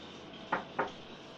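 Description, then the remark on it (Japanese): Two quick knocks on a wooden door of a room, moderately loud, about a quarter second apart, with a quiet background hiss and no voices. “しばらく何もしないまま部屋にこもっていると、やがてノックの音がした。”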